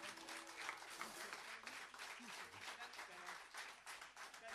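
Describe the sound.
An audience at a live concert in the Demetrio Stratos auditorium applauds for a band: dense, sustained clapping at a steady loudness for about four and a half seconds, with a faint murmur of voices underneath.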